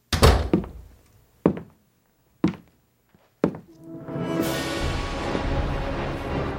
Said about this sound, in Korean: 문이 닫히고 발소리가 멀어지자 라울은 가슴이 뛰었다.